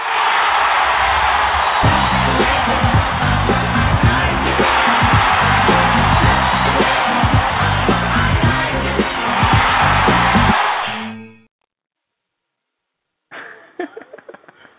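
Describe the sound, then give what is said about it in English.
Steady, loud audience applause with scattered whoops and cheers, welcoming a guest onto a show, rides over a thumping rap beat for about eleven seconds, then cuts off abruptly; after a brief silence, a short burst of sound returns. “We hit a rap beat. We gave you some applause.”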